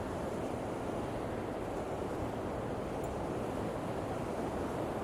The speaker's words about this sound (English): I just love the sound of the ocean. Constant roar behind you.